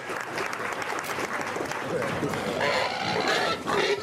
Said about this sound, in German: Einen Wettbewerb, wo das Schwein gewinnt, das aus freien Stücken am lautesten quiekt. Schnell stellt sich heraus, hier gibt es richtige kleine Schreihälse.